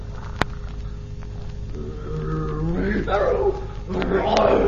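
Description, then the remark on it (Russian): A sharp knock opens, then a tigress's deep, rumbling roar and growls swell and build over a low background, fairly loud, continuing to the end. “Тигрица! Тигрица! Тигрица! Сейчас она съест мальчишку, а потом меня.”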